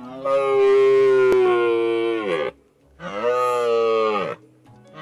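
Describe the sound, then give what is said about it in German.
Two long, deep bellowing roars of a red deer stag, loud, the first stretching over two seconds, the second shorter after a brief pause, with no other sounds around them. “Der Rothirsch ist Tier des Jahres 2017.”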